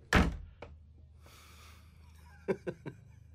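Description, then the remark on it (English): A door thuds shut with a heavy, solid bang as someone leaves, followed by a softer bump, a brief rustle, and three quick, light taps near the end. “Well, could you shut the door on your way out?”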